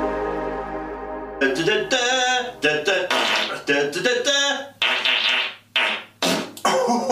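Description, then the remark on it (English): A rapid run of loud, buzzy fart sound effects, about a dozen blasts of varying length back to back, after a brief low hum at the start. “Raiders of the Lost Fart.”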